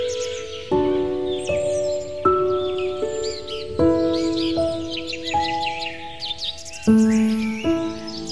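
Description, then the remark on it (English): Birds chirp and twitter in quick, repeated high calls, layered over steady sustained musical tones that shift pitch every second or so; fairly loud and continuous, with no talking. “Ah, the flowers are blooming, the birds are singing, and KBOO's spring membership drive is back.”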